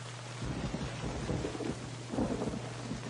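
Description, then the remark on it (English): Steady heavy rain hisses throughout while deep rolls of thunder rumble in waves, swelling around the middle and again near the end, with a faint low hum underneath and no voices. “The rain.”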